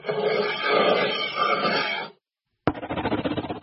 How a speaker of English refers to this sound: She's sketching with a pencil. A marker. Now she's writing on wood.